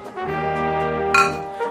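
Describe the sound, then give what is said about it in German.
Glasses clink together in a toast, fairly loud, followed by a sustained ringing tone and a second bright clink near the end. No one speaks. “Jetzt wird's zünftig. Prost.”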